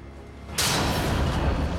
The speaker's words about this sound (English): In another corridor, Jeff Denlon emerges from the shadows, shuffling along the darkened hallway with a look of serious intent. Jeff knocks out a light.